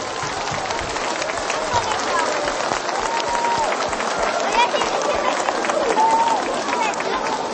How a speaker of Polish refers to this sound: Uwaga! Brawa!